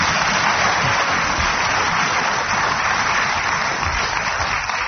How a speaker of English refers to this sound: Would ask the audience to be a bit quicker with the applause, because it's the only way we know that a game's finished.